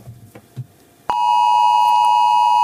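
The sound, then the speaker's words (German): After a second of quiet background, a loud, steady electronic alert tone starts abruptly and holds unbroken, a harsh sustained beep: a phone's regional earthquake warning alert as used in Japan. “Japan ist es gang und gäbe, dass man immer wieder in der Region, wo man ist, Warnungen vor Erdbeben beispielsweise bekommt.”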